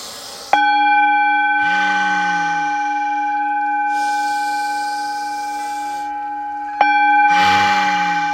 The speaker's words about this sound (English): So let us start inhaling and exhaling nice and easy, deeply. And just find your center and let this inhale and exhale go with the vibrations of this gong.